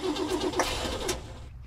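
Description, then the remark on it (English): A car engine cranks over with a rapid, rhythmic chugging from the starter motor but never catches, then cuts off abruptly. Fairly loud, with no voices. “Not working, is it? Clearly not, Yoan. Shall we use my car?”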